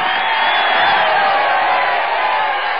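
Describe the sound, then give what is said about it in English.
A crowd applauds and cheers steadily, a dense wash of clapping with scattered whoops, loud and sustained throughout with no pause. “Give a little applause for yourself.”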